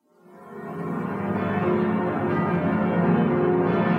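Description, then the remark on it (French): A full peal of church bells rings out, all the bells sounding at once together with two bourdons, the deep bourdons booming beneath a dense, clashing wash of overlapping tolls that swells quickly and stays loud and continuous throughout. “Et elles sont à usage quotidien et très rarement, mais vraiment peut-être 2 ou 3 fois par an, ils font la grande volée, c'est-à-dire qu'ils sonnent en même temps toutes les cloches plus les deux bourdons, et c'est un beau bordel.”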